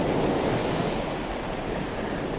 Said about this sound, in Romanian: Ascultă valurile.